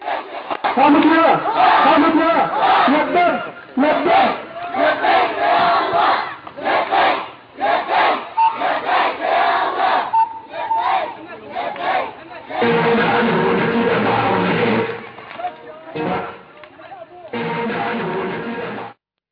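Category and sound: crowd, protest crowd chanting slogans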